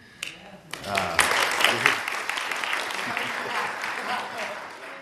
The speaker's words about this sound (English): And it's kind of funny we clap. You've been doing what you're supposed to be doing all along for 60 days after 25 years here and being 44 years old.